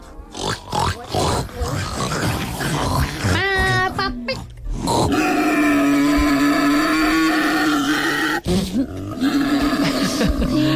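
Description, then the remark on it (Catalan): Someone imitates a wild boar with loud, rough grunts and snorts, then a long, strained roaring squeal, followed by a few more gruff grunts. “Bé, un porc senglar.”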